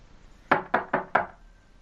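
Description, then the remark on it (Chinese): Four firm knocks on the wooden door of a small cabin on a snowy mountainside at dawn, made by a small boy calling his grandfather to open. The knocks are evenly spaced in quick succession and clear against a quiet background with no voices. “爷爷，爷爷，快开门，我知道你已经醒了。”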